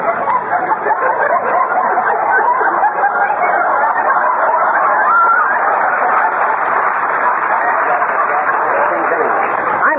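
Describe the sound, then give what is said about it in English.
A crowd of hens squawks and clucks nonstop in a dense, noisy chorus, loud, with no break for the whole stretch. “Tag with them squawking egg factories, Molly.”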